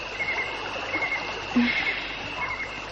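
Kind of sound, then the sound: nature, flowing river water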